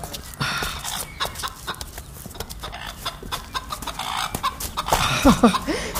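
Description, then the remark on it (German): Chickens cluck on a farm by the stables on a sunny day, in a busy, uneven chorus of short, scratchy calls, with a few louder, higher squawks near the end over a steady rustling background. No one speaks. “Hier gibt's ja viele Tiere. Das habe ich von meinem Zimmer aus gar nicht gehört.”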